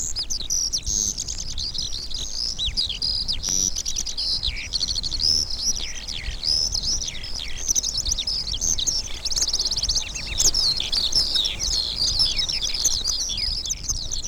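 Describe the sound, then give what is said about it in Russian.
Several field songbirds rising into the sky in the clear morning pour out continuous, overlapping high-pitched warbling and trills, steady throughout, with no voices and only a faint low background rumble. “Видно, как птица только что взлетела, и, набирая силу и высоту, тоже устремляется в небо. И почти незаметны в прозрачной утренней голубизне диковинные полевые певуны.”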